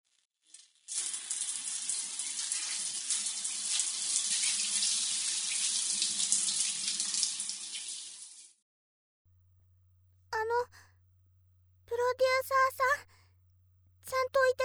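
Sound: shower water running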